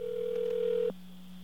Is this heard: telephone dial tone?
yes